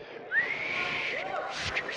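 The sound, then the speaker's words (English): Someone whistles a smooth, rising note that levels off and holds, with a softer wavering tone beneath it, moderately loud, lasting a couple of seconds. “Can you whistle? I can't.”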